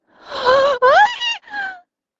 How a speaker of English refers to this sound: I make a sound I didn't know I could make. Part gasp, part shriek, and shoot straight up in bed, eyes flying open. What just came out of my mouth is so girly it makes me cringe